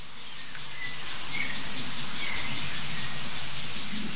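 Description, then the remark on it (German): Small songbirds chirp faintly a few times, marking where a large bird has flown, their short calls half-buried under a steady outdoor hiss like light rain or rustling. No one speaks. “Ja, ich meine, die kleinen Singvögel eben, die haben ja angezeigt, wohin der große Vogel geflogen ist.”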